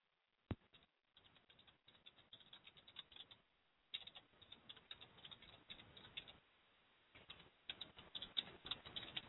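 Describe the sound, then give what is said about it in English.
Rapid clicking of keys on a keyboard as a note is typed, in irregular bursts with short pauses between them, fairly quiet, with no one speaking. “So I'm typing a note.”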